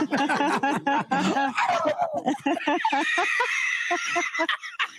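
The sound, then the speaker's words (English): A person imitates a turkey gobble, a loud, rapid warbling burst of throaty yodeling notes that runs for several seconds, ending in a higher squeal, with no other talk. “Wow, you guys are fucking turkeys.”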